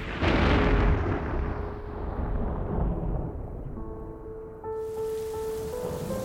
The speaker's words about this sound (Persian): توی تهران، توی خیابونا قدم میزدم به سمت خونه که یهو بارون گرفت.